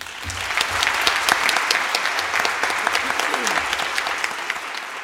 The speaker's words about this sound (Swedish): Applåder efter fullmäktigeledamöternas tal till Jan Jönsson. Och det är inte ofta det blir såna här stående ovationer från samtliga ledamöter i fullmäktige.